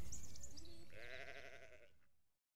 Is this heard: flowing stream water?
no